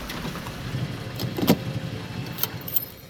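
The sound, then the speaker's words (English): A car's engine rumbles low as it is brought to a stop and parked at the end of a street outside a gothic-style house, with a few short clicks and a faint rattle near the end. No one speaks. “Park the car.”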